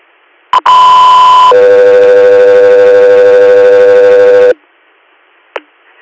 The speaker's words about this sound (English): Roger, you're standby for tones.